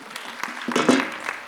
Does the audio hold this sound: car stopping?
no